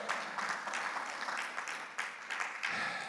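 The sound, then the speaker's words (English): An audience claps steadily for about three seconds, a dense, even wash of many hands with no talking over it, staying at a moderate, unchanging level throughout. “Clap, somebody.”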